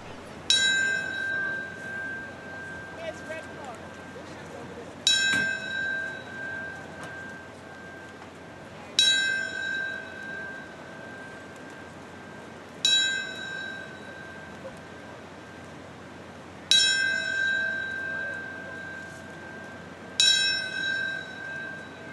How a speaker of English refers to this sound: Now we're going to hear the bell rung several times for this last moment of silence.